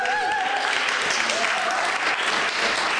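A crowd at a church gathering applauds steadily throughout, giving a round of applause for the person running the cafe; a dense, even wash of clapping with a few faint whistles or cheers rising above it.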